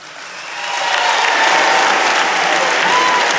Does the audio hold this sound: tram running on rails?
no